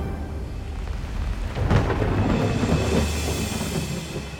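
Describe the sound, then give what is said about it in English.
A thunderstorm rumbles with a deep, rolling thunderclap that swells around the middle, while steady rain hisses throughout. No voices, just the dense wash of storm noise. “Well, that scene posed its own challenges because it's set during a storm.”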